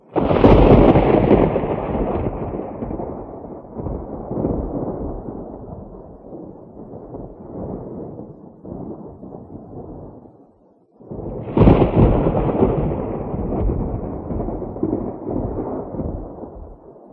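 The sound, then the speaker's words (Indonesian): Two heavy rolls of thunder, each starting with a loud crack and rumbling on for several seconds, the second arriving after a brief lull. No voices. “Ya, suara halilintar.”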